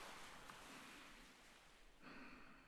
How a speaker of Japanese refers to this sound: あ、波の音聞こえる。